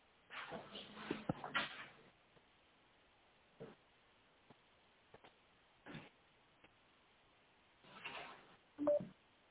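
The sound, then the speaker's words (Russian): A telephone number being dialed on a second telephone: scattered short keypad beeps and clicks at irregular intervals, with some rustling handling noise, fairly quiet, with no one talking. “Повисите, я могу позвонить, спросить у меня сейчас по другому телефону.”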